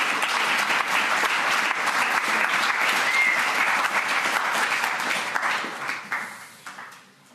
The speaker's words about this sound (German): Herzlichen Applaus.